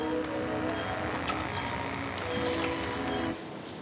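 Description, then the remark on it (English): Steady rain falls throughout outdoors on a terrace with a view of a big gnarly old tree with no leaves, a dense even hiss with scattered sharper drops pattering, easing slightly toward the end. No one speaks. “Will stands outside in the rain on a terrace with a view of a big gnarly old tree with no leaves.”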